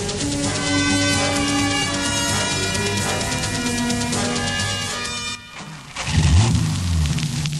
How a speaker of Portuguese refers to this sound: Ande mais depressa com esse carro